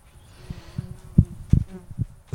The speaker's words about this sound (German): Das ist das, was ich am Spätsommer nicht mag, sind Wespen. Okay, ja. Ab Mitte August werden die nervig, finde ich.